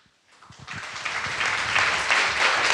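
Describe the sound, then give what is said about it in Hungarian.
Audience applause at the close of a gathering in Mikháza rises from near silence into a dense, steady patter of many clapping hands, swelling and holding loud through the end. “Köszönjük a tapsot.”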